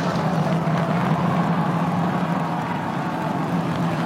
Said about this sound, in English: Engines and startup. This is going to come down to three engines as the booster slows down for its landing.